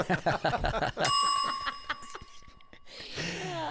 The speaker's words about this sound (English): It's a very quiet bell there.